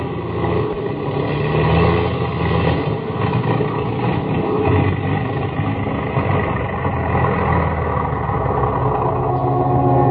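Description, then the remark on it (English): The engines of an airplane with engine trouble, flying over jungle, roar in a loud, continuous drone that stays steady for the whole stretch, with a slightly uneven, labored rumble and no voices. “The engines are stopping. We're going to fall.”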